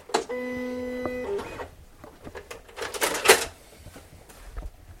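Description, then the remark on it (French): An electronic cutting machine whirs with a steady motorized whine, then gives a few short mechanical scraping bursts as its pivoting blade, guided by sent files, cuts 250-gram paper laid on a cutting mat. No voices. “C'est comme une imprimante, en fait. Mais c'est une lame qui pivote sur elle-même et qui va être guidée par les fichiers que je lui envoie”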